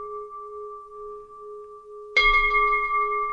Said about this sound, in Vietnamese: Đó, sau khi rung chuông rồi, nhìn thấy mọi người, gia đình với các Phật tử là ngồi đâu ở đấy hết rồi, trang nghiêm rồi, thì bắt đầu chúng ta bắt đầu hồi chuông.